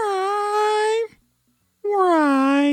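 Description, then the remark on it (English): A person's voice imitates a cat's meow played in reverse: two loud, drawn-out nasal tones about a second each, separated by a short silence, with no other sounds. “I mean, we're just making noises backwards and then flipping them around.”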